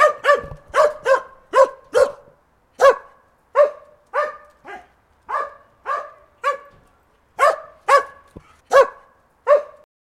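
A dog barks repeatedly and insistently at a stranger who rang at the garden gate, about sixteen loud, sharp barks in quick irregular bursts with brief pauses, with no other voices.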